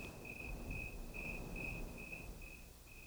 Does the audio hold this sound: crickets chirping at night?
yes